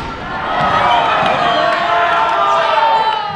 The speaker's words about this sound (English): At tonight's basketball game, the Longmont Trojans are trailing the Columbine Rebels by 4 points.